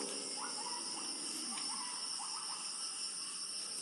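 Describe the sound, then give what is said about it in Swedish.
Crickets chirp steadily in a dense jungle in Sabah, Malaysian Borneo, just before sunrise, their high-pitched trilling forming a constant layered drone, with a few faint calls rising briefly through the background. “Syrsorna fortsätter sin nattkonsert ett tag till.”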